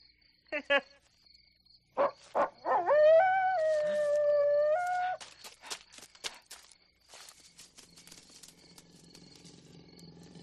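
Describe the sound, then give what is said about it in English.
A dog howls once, a loud, drawn-out wavering cry lasting a couple of seconds, out in the middle of nowhere, preceded by a few sharp knocks and followed by faint crunching footsteps and rustling. “Probably just a dog.”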